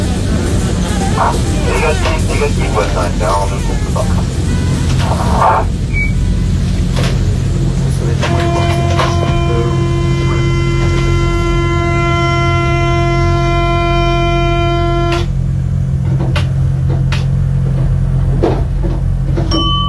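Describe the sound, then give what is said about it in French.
An RER commuter train rolls along with a steady, loud low rumble, heard from inside the driver's cabin; midway a sustained harmonic whine or horn tone holds for several seconds, then cuts off. “il est monté dans la cabine du conducteur de ce RER et il a tenu lui-même à lire un passage de Mars.”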